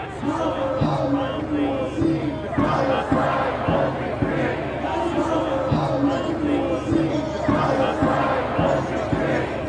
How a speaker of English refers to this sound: And a young woman had the crowd chanting against Stephen Harper and Michael Ignatieff about their undying support for Israel and the lack of support for Palestine.